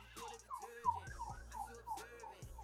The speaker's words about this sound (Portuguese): Tá só uma ambulância aí, senhor.